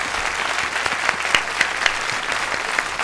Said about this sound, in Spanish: un aplauso para él, por favor, bienvenido.